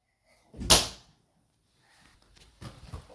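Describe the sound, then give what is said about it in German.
A door bangs open with one loud thump as a man's head knocks against it, then quieter rustling and a couple of softer knocks follow a moment later. “Papa knallte mit dem Kopf gegen die Tür. Die Tür schwang auf und er fiel der Länge nach auf den Flur.”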